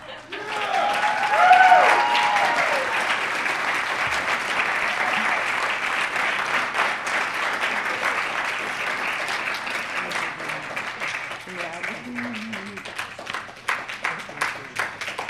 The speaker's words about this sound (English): so we can just give him a round of applause and a very deep-hearted thanks.